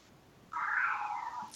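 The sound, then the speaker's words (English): A single drawn-out meow from Tig, a male house cat, at supper time, loud and slightly rough, starting abruptly and tapering off after about a second, with no talking over it. “That's a house tiger. Yeah. Yes. He has a little roar.”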